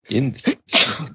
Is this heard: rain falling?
no